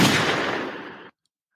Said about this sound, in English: Could you hear them gunshots? I could. Hopefully they can.